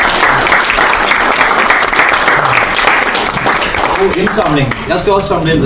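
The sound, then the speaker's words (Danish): Steady, loud audience applause with dense overlapping claps throughout; toward the end a voice begins talking over the clapping. “Jeg tror, jeg klapper af”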